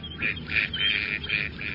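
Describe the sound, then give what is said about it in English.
A duck quacks repeatedly in a quick, nasal series of calls, fairly loud, with no one speaking. “Picture a duck swimming slowly across a pond, skimming the water's surface with its broad, spatulate bill slightly ajar.”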